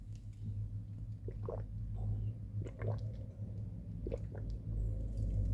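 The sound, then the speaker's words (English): Quiet gulps of someone drinking water, three or four wet swallowing sounds spaced a second or so apart over a steady low background hum, with no talking. “I'm drinking some water right now.”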